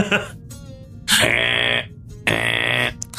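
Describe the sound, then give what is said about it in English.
A ship's alarm in the cargo bay gives two loud, harsh buzzing blasts in succession, each holding a steady tone for about half a second with a short gap between, preceded by a faint murmur. “And he it's says, right, alarm.”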